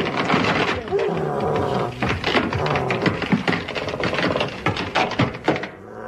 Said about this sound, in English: it's moving out of it. Oh, it's smashing the crate to pieces.